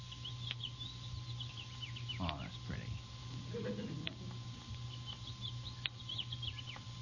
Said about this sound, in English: Linnets and meadowlarks.